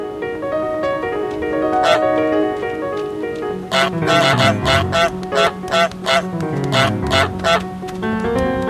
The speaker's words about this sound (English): You literally just get to terrorize people as a goose. If you don't like this game... Can you bite someone? Oh, of course, you're a goose!